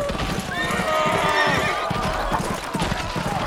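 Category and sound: animal, horses galloping and neighing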